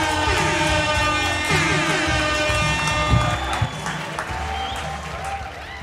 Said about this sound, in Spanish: La siguiente persona parece que también estudió en Perpetua, pero él está perpetuamente triste. Fuerte aplauso para